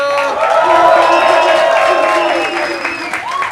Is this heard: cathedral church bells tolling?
no